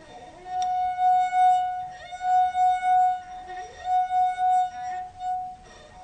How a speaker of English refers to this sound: And then what we asked you to do was to drink half of the water from the glass and play the note again. Now, we're going to find out exactly what happens.